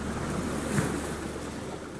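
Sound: ocean waves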